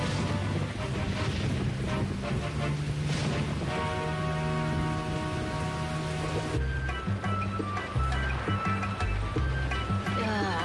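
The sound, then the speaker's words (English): Steady rain patters down continuously, a dense hiss of drops on a surface, heard beneath a layer of music with sustained tones throughout. “Hours of vacation and it's still raining.”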